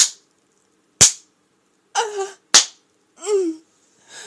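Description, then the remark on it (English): Three sharp slaps of a free hand on bare buttocks, spaced about a second apart, with two short breathy vocal cries between them and no words spoken. “He turns me around and slaps my ass free hand.”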